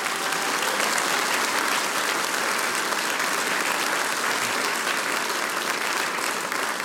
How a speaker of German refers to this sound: Applaus.